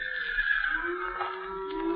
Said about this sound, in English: You hear that? Yeah. One of the horses must have walked down the trail a piece.